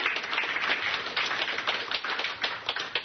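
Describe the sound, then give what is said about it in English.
A crowd claps hands steadily in praise after a prayer, a dense wash of overlapping claps with no clear beat, fairly loud and continuous throughout, with no voices standing out. “Come on, clap them hands and praise them.”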